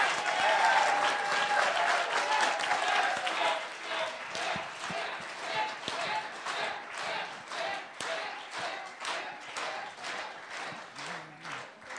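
A group of people stands and applauds a leader steadily, a dense wash of clapping that stays strong throughout, thinning slightly near the end so individual claps stand out more.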